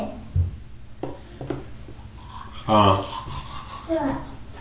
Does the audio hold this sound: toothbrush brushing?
yes